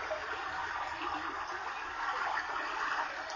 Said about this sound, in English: We're coming towards the stream now. Perhaps some cool water will calm your nerves. Very well. Let's follow the babbling of the brook.